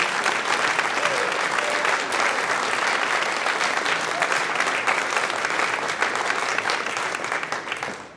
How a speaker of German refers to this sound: Ja, das ist dein Applaus, noch. Danke vielmals.